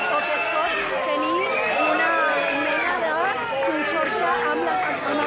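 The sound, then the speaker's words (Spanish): Several dozen people shout and jeer at Spanish politician Inés Arrimadas of Ciudadanos as she tries to speak to the media at an event with party members in Canet de Mar, a loud, continuous, overlapping din of raised voices with no pauses throughout. “Intentaba sin éxito, como ven, la señora Arrimadas, atender a los medios de comunicación debido a los gritos que le dirigían varias decenas de energúmenos”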